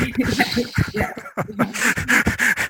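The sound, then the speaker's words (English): A four-year-old boy, just home from preschool, yaps and barks like a dog in quick, repeated bursts with panting breaths between them, fairly loud throughout. “Sorry, so my son just got home from preschool, so there may be a four-year-old barking in.”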